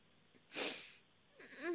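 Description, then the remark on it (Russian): A boy sniffles sharply, then lets out a brief, wavering, tearful whimper over a phone line after falling onto his back and head, all sounding thin and tinny, fairly quiet with no talking. “Ладно, не плачь, ты сейчас себя как”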